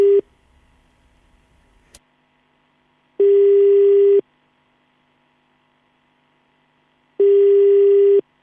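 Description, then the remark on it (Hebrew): A telephone ringback tone sounds on a radio station's prize call to a listener: steady, mid-pitched buzzing beeps about a second long, repeating after roughly three seconds of silence, with a faint click beforehand. “עוד צלצול אחד ודי.”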